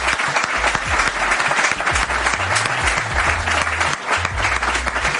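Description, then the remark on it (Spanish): An audience applauds four speakers after a talk, steadily for about five seconds, a dense, sustained wash of many hands clapping with no voices rising above it. “Así que como yo creo que ha sido bastante amena esta charla, pues un aplauso para los cuatro también.”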